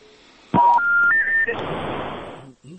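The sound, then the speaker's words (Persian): Three electronic telephone tones climb in quick steps over a phone line as a listener's call connects to a Radio Azadi call-in show, loud, then give way to a steady wash of line hiss before cutting off. “من که مشکل تکنیکی داریم، تلفن ها وصل میشه”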